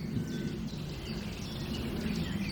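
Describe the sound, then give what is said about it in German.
A Eurasian nuthatch calls in a quick series of short, piping notes, fairly faint against a steady low outdoor rumble, with no one speaking. “Jetzt hören wir gerade den Kleiber sehr laut mit seinem chip chip chip chip”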